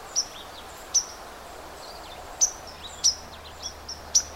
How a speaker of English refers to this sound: the sounds that you're hearing, little pink, pink, pink, most of that is white-throated sparrow. There's also a few other little high, kind of vague little sounds. I also hear a red-eyed vireo.